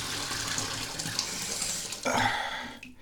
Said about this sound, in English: Turn the water off here.